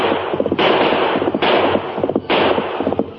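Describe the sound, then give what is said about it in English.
Three loud gunshots ring out about a second apart, each a sharp crack followed by a long, noisy rumbling tail that blurs into the next, fired by the outlaw the Hawk as he turns while riding a black horse across a plain. No one speaks. “Then the Hawk turned and fired.”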